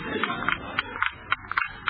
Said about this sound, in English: Gets louder every minute. Could hardly hear it at first, but now listen to it. Thumping away over there like Big Ben. Where is it? It wasn't here when I went to bed. Of course, it's Sid's wristwatch.